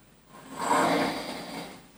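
One loud, rasping snore swells up, holds its rough, buzzing breath for about a second, then slowly fades out, with no voices.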